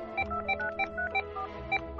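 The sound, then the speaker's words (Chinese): A quick, uneven run of short electronic beeps from a mobile phone keypad being tapped to compose a text message while dinner is being made, each tone sounding at a slightly different pitch, clear with no voices. “做晚饭的时候，素台给曾志发了一个短信。”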